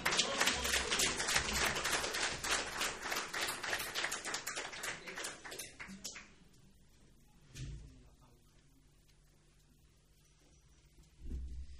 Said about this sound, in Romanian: Și mă dau jos din amvon și aș vrea în continuare să-L aplaudăm pe Iisus Hristos și cu aceasta eu am încheiat.